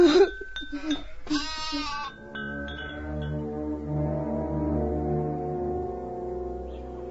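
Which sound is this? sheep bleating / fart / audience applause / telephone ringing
sheep bleating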